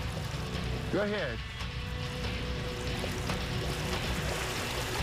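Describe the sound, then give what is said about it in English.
A dog named Ellie jumps into and swims through a river current to find a shot bird, amid a steady wash of flowing water and soft splashing, with a brief high, wavering vocal call near the start. “Oh, she's in the water.”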